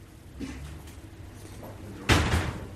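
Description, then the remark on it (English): A heavy pub door swings open with a single solid thud and a brief rattle, as an early-house pub in Smithfield is opened up before its 7 o'clock opening, following a stretch of quiet with faint background shuffling. “You open the door, you turn the alarm off, you get the ice, and you get your float into the till.”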